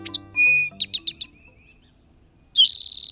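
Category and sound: bird, towhee song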